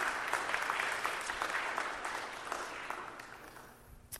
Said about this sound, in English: She deserves a round of applause.